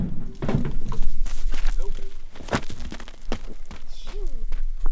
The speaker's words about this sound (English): the first sheep hops out of the trailer, bounds down the road, and fades into the brush. One by one or two by two, the rest of the sheep get released in the same way.